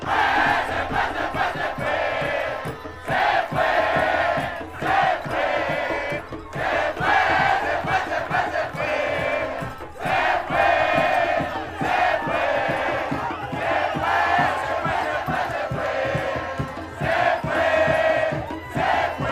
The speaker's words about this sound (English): And so here you have, you know, all the Venezuelans I saw, I have yet to see one video from a Venezuelan who was sad that Maduro was captured by the United States. No, there was widespread, I mean, tears of joy and cheering and celebration.